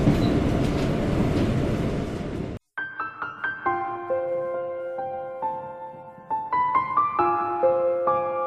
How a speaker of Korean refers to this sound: 한강에 눈이 내린다. 지하철에 눈이 내린다. 지하철이 가끔씩 지상으로 올라서주는 것은 고마운 일이다.